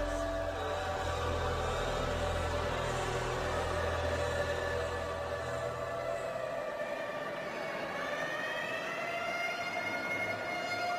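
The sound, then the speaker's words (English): An ambulance siren wails steadily with a rising and falling tone as the ambulance rushes to a clinic in Owerri, over a low engine rumble that fades partway through. No one speaks. “Meanwhile, the ambulance rushed to St. Eunice's Clinic in Owerri.”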